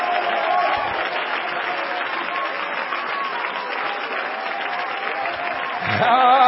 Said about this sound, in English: Clap your hands and give him some praise.